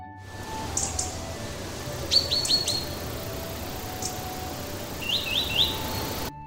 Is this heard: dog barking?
no